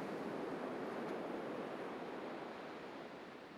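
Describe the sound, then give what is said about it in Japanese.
A soft, steady wash of distant sea surf, a faint continuous roar with no distinct breaking waves, easing slightly toward the end, heard at summer midday from fields along a railway line outside a small town. No voices are heard. “遠くにかすかに海の音がしていた。”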